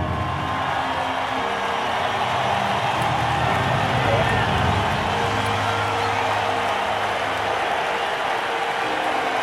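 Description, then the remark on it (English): A dense, steady roar from a crowd in the stands at a race fills the whole stretch, a continuous wash of many voices and murmuring with low rumbling underneath, holding at a constant loud level without pause. “Just a bigger crowd.”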